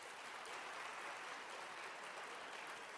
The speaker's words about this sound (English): All right, so those of you who believe barbecue is beef, if you would let it be known with your applause.